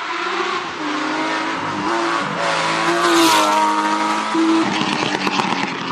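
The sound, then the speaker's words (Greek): A Porsche 911 sports car engine revs loudly and steadily for several seconds, its pitch rising and falling with a brief surge in the middle, with no talking. “Ένα αυτοκίνητο πολυτελές, φορά αυτοκίνητο ψηλών επιδόσεων.”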